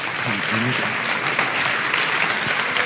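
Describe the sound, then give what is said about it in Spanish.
A crowd claps steadily in a dense, sustained burst of applause as a representative of Olympus is called up to present a voice recorder prize, with a brief voice faintly audible underneath near the start. “Un aplauso.”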